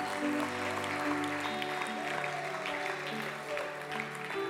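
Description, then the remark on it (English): A church audience claps steadily and loudly for several seconds as a round of applause for the Lord, a dense wash of hand claps with a few sustained tones and murmuring voices underneath. “Let's give the Lord a great round of applause.”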